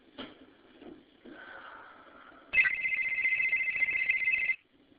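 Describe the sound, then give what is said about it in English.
Murray's cell phone rings as a text message arrives. It gives a soft electronic tone, then a louder, bright, steady buzzing ring that lasts about two seconds before cutting off, with no talking. “A text message has just been sent to Murray's cell phone.”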